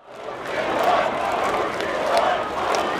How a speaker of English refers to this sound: Hundreds of protesters crowded into Pushkin Square, less than a mile from the Kremlin, shouting, "Putin is a thief, and down with the Tsar."